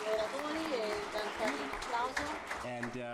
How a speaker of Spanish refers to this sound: Bueno, gracias a nuestros oradores. Por favor, un aplauso.